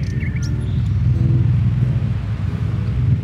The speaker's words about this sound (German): Das ist mein Ventilator. Der leistet im Moment Schwerstarbeit. Läuft eigentlich von morgens bis abends.